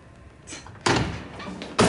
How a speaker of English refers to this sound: Zig storms in. He pushes Boz and slams Hunter against the stalls.